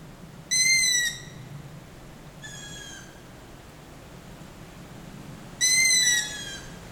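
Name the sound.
night birds calling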